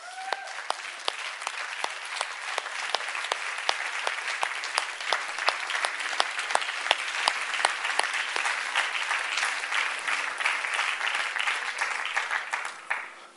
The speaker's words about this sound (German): Dann stehen wir doch auf und geben dem Herrn einen mächtigen Applaus.